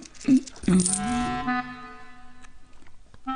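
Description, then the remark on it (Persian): Coins clink together in two quick metallic knocks, their bright ringing tones lingering and slowly fading, fairly clear with no one speaking; an old man's coins are being shown to a physician (hakim) as payment for his treatment. “بسیار خوب، بگو ببینم پیرمرد برای درمانت چند سکه با خود آورد. هر چه در خانه داشتم. آنها را نشانم بده.”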